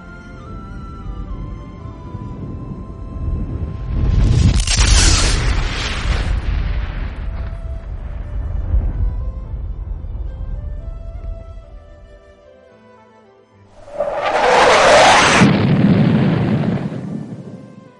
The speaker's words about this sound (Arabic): وإحنا طالعين السيارة سمعنا صوت انفجار وحاصرنا اللهيب من كل مكان.